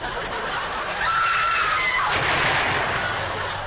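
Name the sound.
gunshot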